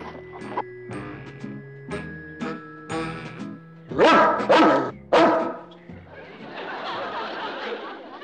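A dog yips and whines in short bursts, then lets out three loud barks before settling into a rough, breathy growl.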